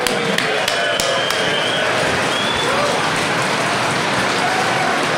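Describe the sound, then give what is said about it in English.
A crowd at a CAMRA beer event applauds the brewers steadily for several seconds, a dense patter of clapping, while a few sharp glassy clinks of beer glasses being banged together ring out near the start and scattered voices murmur underneath. “So pause for applause, shake your glasses, bang them together, well done.”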